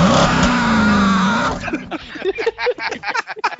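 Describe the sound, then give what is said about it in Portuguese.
A bus engine roars loudly near the exhaust for about a second and a half, its pitch climbing as it revs, then cuts away as people start talking. “Na hora que ele abre a porta do banheiro, que é o motor do sei lá, parece que já fica perto do escapamento ali do busão.”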